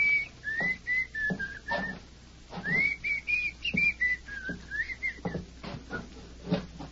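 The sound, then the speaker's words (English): A man whistles a slow, wandering tune in two long phrases inside a tiny cabin where three men wait, each note held and sliding gently, fairly clear, with soft footsteps and small knocks underneath. “And Dane whistled a slow tune that seemed to mock their predicament.”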